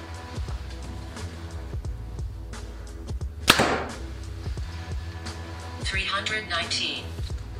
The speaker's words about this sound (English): All right, guys, now the Hoyt Ventum 30 at 29 inches of draw, 70 pounds with 80% let off. First arrow, 350 grains.